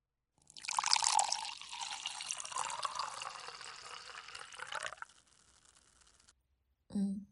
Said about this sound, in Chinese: 嗯，好的，我给姐姐斟酒。